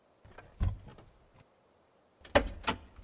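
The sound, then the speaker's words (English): A truck door unlatches and swings open with a heavy clunk and rattle as someone climbs out of the truck, pulled to the side of the road by an interstate on-ramp, followed by a louder metallic thump and clicks, with no one speaking. “I climbed out of the truck.”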